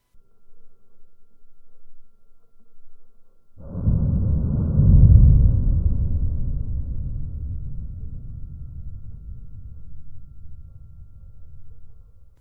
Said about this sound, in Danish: Denne lyd varer i virkeligheden 3 minutter, men er presset sammen 35 gange, så den kun varer de 6 sekunder, som vi lige har hørt. Den her lyd løber videre gennem Danmark. Seismometret i Mønsted Kalkgruppe hørte denne rystelse.